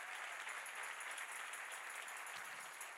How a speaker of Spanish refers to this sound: ¿Alguien dice gloria a Dios? Dele mejor ese aplauso al Señor.